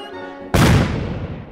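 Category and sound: sound effect, firecrackers and fireworks exploding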